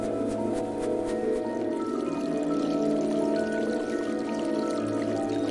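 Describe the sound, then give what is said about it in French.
Water flows steadily and continuously, a babbling trickle of a small stream winding through a forest, with a faint tonal hum underneath and no voices. “Élise courut jusqu'au petit ruisseau qui serpentait dans la forêt.”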